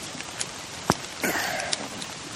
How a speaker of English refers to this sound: This is quite a refreshing rain. This is, it's not cold.